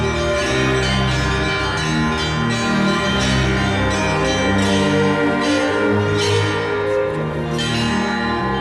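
A dense peal of church bells rings continuously, many bells overlapping in a rich, clanging wash with strong sustained overtones, loud, with no voices; the ringing calls people to prayer.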